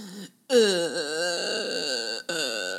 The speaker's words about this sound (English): What was that? That wasn't a whale noise. That's the groan you make when you enter me.